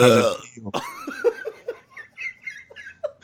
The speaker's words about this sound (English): Still got those burps though, huh? That one startled me.